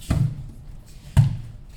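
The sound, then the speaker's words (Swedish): Two heavy, muffled thuds of bodies landing on a judo mat as people practise falling technique, about a second apart, each a dull low impact with a brief slap, with quiet room sound between. “Det är därför det dunsar i mattan.”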